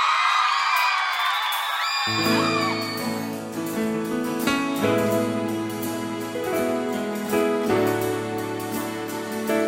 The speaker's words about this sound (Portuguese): Eu queria, primeiramente, uma salva de palmas para essa artista maravilhosa.